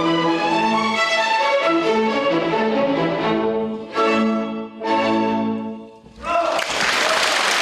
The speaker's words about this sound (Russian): от благодарных зрителей бурные аплодисменты музыкантам